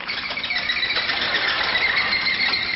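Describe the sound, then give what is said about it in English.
High, shrill rubbery squeaks and squeals stream continuously as a balloon is twisted and rubbed into a balloon animal, with wavering pitch and steady loudness throughout and no voices. “All right, and now it's time for fun balloon animals.”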